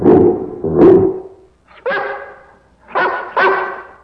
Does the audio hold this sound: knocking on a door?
no